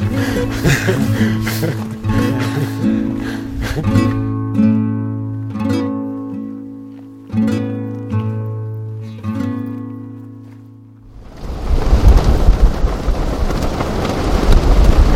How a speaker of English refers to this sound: This sound could be a yak dung fire inside a stove, or rain falling on a roof, but it's the wind ripping through 1,000 prayer flags on the north side of the mountain.